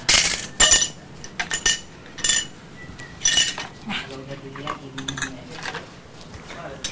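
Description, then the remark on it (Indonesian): A spoon clinks and scrapes against dishes and a frying pan in a series of bright, irregular metallic taps, with a voice speaking quietly in the background. “Oh, sama ada sendoknya.”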